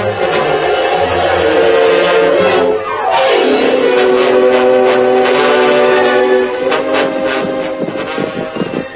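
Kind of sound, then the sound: vehicle, train whistle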